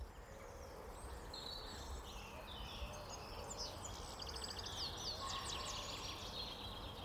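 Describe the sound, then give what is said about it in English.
An outdoor bird chorus by the River Eithen: high robin song phrases and chirps overlapping, with pheasant and wood pigeon calls mixed in, all over a steady low rumble of background noise. “Yeah, you know, pheasants, robins, yeah. Wood pigeon.”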